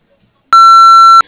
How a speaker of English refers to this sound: You've reached Skyhaven Farm. We are unable to take the call at this time. The sound of the beep, please leave your name, phone number, and short message, and we'll get back to you as soon as possible.